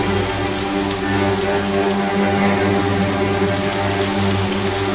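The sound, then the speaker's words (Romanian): Heavy rain pours down steadily, a dense continuous hiss of drops striking a surface, loud with no pauses or voices. “Și gelos, o ploaie puternică făcu el să se dezlănțuie atunci.”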